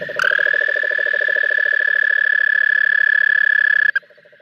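cane toad calling

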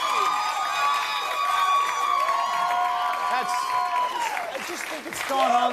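audience clapping

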